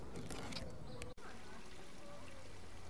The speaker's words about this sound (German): Hören Sie es leicht plätschern?